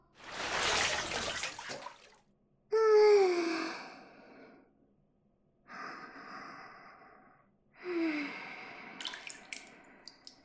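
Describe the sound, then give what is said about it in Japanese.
Bathwater sloshing in a bathtub as two people settle in to soak, in four separate surges, each a swishing wash with wet, gurgling ripples, separated by short quiet pauses; no one speaks. “ほら、肩まで浸からないと風邪ひくよ。”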